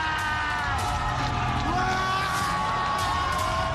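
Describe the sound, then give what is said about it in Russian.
A dense crowd of young people shouting and whooping together in delight as Lenin statues are toppled (the 'Leninopad'), a continuous loud roar of overlapping yells and cheers filling the whole moment. “Молодежь сопровождает Ленинопад криками восторга.”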